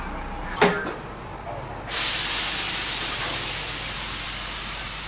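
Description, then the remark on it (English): A bus from Jacksonville arrives in Gainesville after about 70 to 80 miles: a brief sharp burst is followed by a sudden loud hiss of air brakes that holds steady and strong to the end, over a low rumble. “Here comes a bus right now.”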